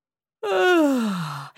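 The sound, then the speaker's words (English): A single drawn-out voiced yawn, fairly loud, its pitch sliding steadily downward over about a second before trailing off. No talking around it. “He yawned.”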